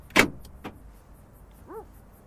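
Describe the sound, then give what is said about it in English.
Inside a car, the driver locks the doors by hand: a sharp mechanical clunk of door locks engaging, then a softer second click, followed by a brief electronic chirp. Quiet, with no talking. “And he's wearing like this blue button-down shirt as he leans back, hands go back on the wheel, and you see off to the left his hand, he locks the doors.”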